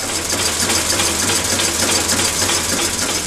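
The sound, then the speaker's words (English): A prototype single-cylinder diesel engine runs steadily on a bench in a CSIRO shed in Newcastle, a loud, constant low throb beneath a dense mechanical clatter and hiss, with no voices and no change in pace throughout. “all we have to show for it is a prototype single-cylinder diesel engine sitting on a bench at a CSIRO shed in Newcastle. When it's running, this is what it sounds like.”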